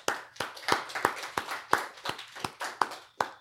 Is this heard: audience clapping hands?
yes